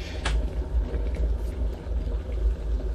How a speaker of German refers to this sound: Der Wasserkocher hat das Wasser jetzt richtig schön heiß gemacht. Und das ist schon mal ein spannendes Geräusch.